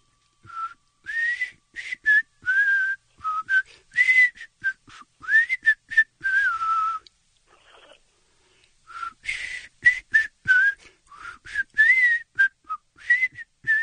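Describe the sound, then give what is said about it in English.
Someone whistles a song melody, with breathy, clearly phrased notes in two passages separated by a brief pause around the middle. No talking. “I heard that in my head when I was whistling.”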